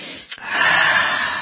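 A bottle of Clear nasal spray squirts: a brief airy puff, a tiny pause, then a steady, fairly loud hiss of misted spray lasting about a second, with no voices.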